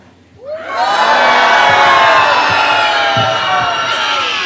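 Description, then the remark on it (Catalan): A crowd of standing children shouts loudly together on cue at a children's festival proclamation (pregó infantil), a dense wall of high-pitched voices rising after a brief quiet start and holding strong for several seconds. “I per últim, a cridar ben fort.”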